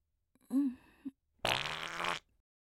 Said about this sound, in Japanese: ちょっとお腹すっきりした。 変にごまかして気を使わせちゃうよりは、普通におならしちゃう方がいいわよね。